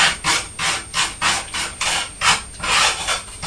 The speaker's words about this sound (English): Buttering the toast now.